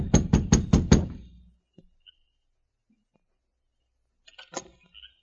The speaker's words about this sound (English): Within a short time, Sergeant Preston and King reached the Evans cabin and knocked at the door.